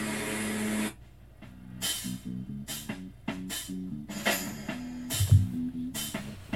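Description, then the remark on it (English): A buzzy, electronic-sounding lawnmower effect: a sustained low drone that steps up and down in pitch, cut by repeated bursts of bright hissing noise, with no voices. “I know it's supposed to sound like a lawnmower, but it always feels like some electronic kind of zzzz.”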